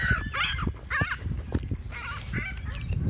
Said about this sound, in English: Seagulls got really angry.